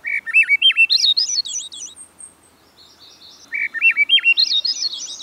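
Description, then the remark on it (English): A Swainson's thrush sings two clear, flute-like phrases that spiral upward in pitch, separated by a short pause, fairly loud against a quiet background with no talking. “Still others name the singing of the Swainson's thrush.”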